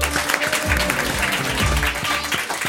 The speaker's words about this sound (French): Applaudissez